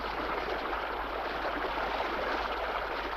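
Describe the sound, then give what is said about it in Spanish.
A river current rushes steadily over large flat stones where the river widens upstream of a narrow gorge with rocky walls, a continuous wash of water with no pauses and no voices. “Río arriba, la corriente se ensancha entre grandes piedras planas.”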